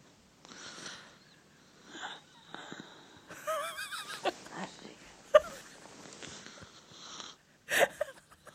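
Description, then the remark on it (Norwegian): Sheep bleating in a few wavering, quavering cries, with scattered rustles and a couple of sharp bursts of noise around them. “Åh, det er sau på rommet.”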